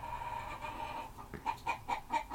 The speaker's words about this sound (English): Oh my god, that fucking stupid fucking chicken.